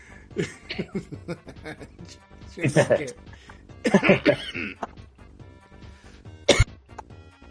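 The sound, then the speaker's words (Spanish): A loud coughing fit: several harsh bursts in quick clusters, with throaty, strained vocal sounds between them and one sharp final cough near the end. “Perdón, me atacó la tos.”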